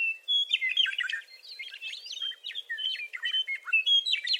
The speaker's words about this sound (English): Inslee grew to love the meadowlark's song